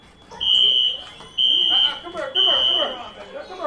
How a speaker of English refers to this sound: Back at Como Community Center, a fire alarm sends kids streaming outside.